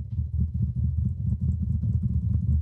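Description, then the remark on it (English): A makeshift drum roll before declaring a winner: a rapid, steady patter of dull, low taps that sounds a lot like fast typing, rumbling on evenly for a few seconds with no voices. “I don't know what it sounded like, because it just sounds like typing to me.”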